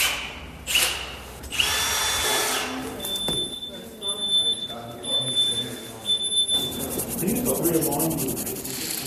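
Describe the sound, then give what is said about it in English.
A power drill whirs in several bursts in a museum workshop where volunteers and experts restore more than 200 old bones of a skeleton, its high whine rising and cutting off over a busy, scratchy background with faint voices. “Is this what a museum normally sounds like? Drills, screws and wires are laid out on tables, along with plastic gloves, brushes, sponges and tape.”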